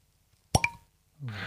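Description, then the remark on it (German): A real cork pops out of a bottle with a crisp, hollow pop, followed by a quick softer knock, then a moment later someone starts talking. “Ich würde schon mal von der Struktur her sagen, es ist ein richtiger Korken.”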